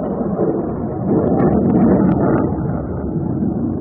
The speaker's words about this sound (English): There's a naval base in Odessa, and this is what it sounded like. And then jets were roaring overhead. You can hear those.